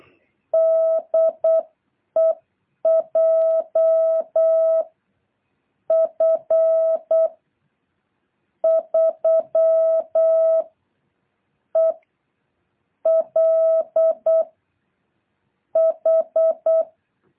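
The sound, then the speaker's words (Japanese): A steady, mid-pitched beeping tone keys on and off in crisp dots and dashes: Morse code spelling a callsign, sent in separate bursts with short pauses between letters, loud with no voices. “ツートとツートって言ったら、最後、コルサインのね、サフィックス3つって言ったら、それ来ますので、その次はエリアですね。”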